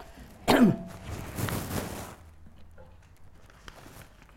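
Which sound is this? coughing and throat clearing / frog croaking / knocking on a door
coughing and throat clearing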